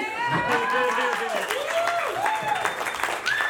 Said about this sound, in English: How about you guys applaud again? Because you were pretty shitty.